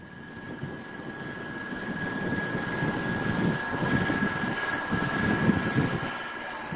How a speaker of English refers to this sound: A large boat makes its way through fog-enshrouded Aniva Bay at the southern tip of Sakhalin Island.